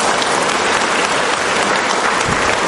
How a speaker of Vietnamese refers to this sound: Chúng ta cho một tràng pháo tay chào người anh em này gọi.